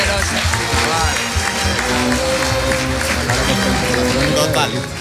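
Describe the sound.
Loud, sustained applause from an audience in Zaragoza fills the whole stretch, a dense wash of many hands clapping at once with some crowd voices mixed in beneath.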